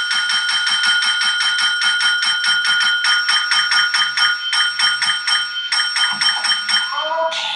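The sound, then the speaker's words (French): A small hand bell, Hector Salamanca's bell, which he uses to communicate, rings loudly and insistently, struck in rapid, steady succession for several seconds before the ringing breaks off near the end. “qui communique avec une sonnette”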